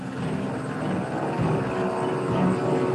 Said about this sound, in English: U.S. officials greenlight their rescue team. Four helicopters depart Fort Bliss.